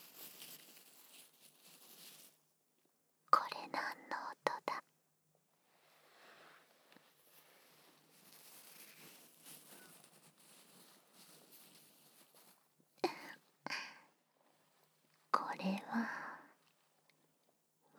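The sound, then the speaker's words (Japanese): Soft underwear fabric (panties) is rubbed and crumpled: quiet, papery rustling throughout, broken by several louder bursts of crinkling, some in quick uneven clusters. No voices. “私のパンツをくしゃくしゃ触ってる音。”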